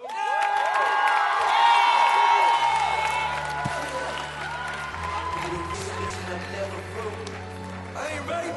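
An audience at a poetry slam bursts into applause and cheering for the last poet of the slam, with high whoops and shouts over steady clapping that stays loud for several seconds before easing off slightly.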